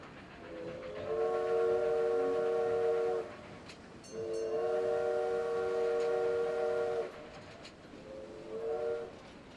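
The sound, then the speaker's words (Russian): A diesel locomotive sounds its horn in three loud, sustained blasts, the last one cut short, over the steady rumble of a passing train. “отзывчивые машинисты могучих тепловозов приветствовали ее короткими трубными гудками.”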